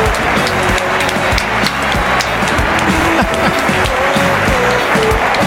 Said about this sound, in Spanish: Muy bien, aplauso.